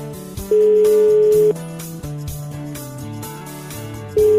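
A telephone ringback tone of an outgoing call from Radio Ognjišče to a listener celebrating a birthday in Velesovo sounds twice, each a steady one-second beep separated by a long pause, played loudly over soft background music with no talking.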